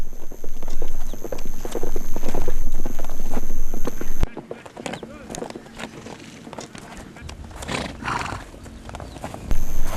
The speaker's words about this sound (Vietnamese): Sau khi đưa được dây thòng lọng vào cổ ngựa, cũng phải mất một lúc mới khiến nó ngừng chạy.